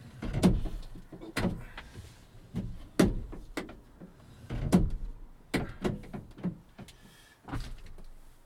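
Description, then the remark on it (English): A van door is opened carefully, trying not to set off its automatic LED lights, to check the weather: a series of clunks, clicks and latch knocks spread over several seconds, with quiet rumbling between the sharper impacts and no talking. “Now, if I was able to open the door without setting them off, I would be able to see what the weather's doing.”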